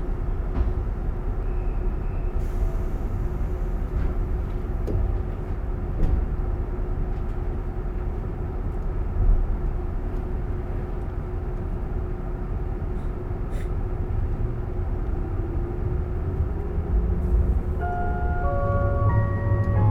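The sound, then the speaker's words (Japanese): A limited express train bound for Nagano sits rumbling steadily with a low, constant drone as its doors close, then near the end its electric motors start to whine in rising tones as it pulls away from the platform. “特急の長野行きです。ご乗車には特急券が必要です。ドアが閉まります。”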